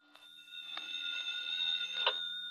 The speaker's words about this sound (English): At 7 o'clock, my phone rang.